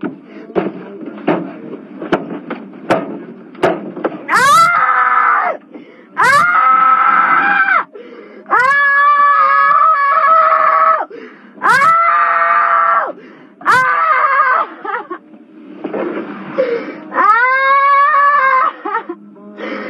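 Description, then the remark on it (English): A woman in the back seat of a police patrol car screams again and again in a tantrum, loud, drawn-out wails rising and falling in pitch, separated by short gasping pauses and faint rustling as she lies down and kicks. “Time she's doing this screaming, and in the South would call this pitching a fit.”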